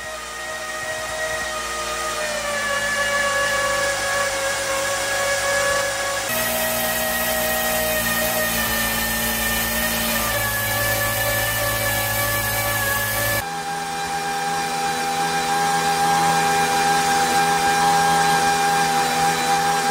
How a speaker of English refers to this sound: What's truly fascinating is that the engine sounds entirely different depending on the fuel it's using.